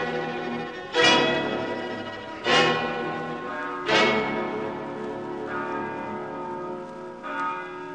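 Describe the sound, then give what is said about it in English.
A church bell in a bell tower, its rope worked by a puppet, tolls with about five slow, evenly spaced strikes, each leaving a long, shimmering decay that overlaps the next. The bell rings alone at moderate volume, with no voices. “A puppet working the rope of the church bell.”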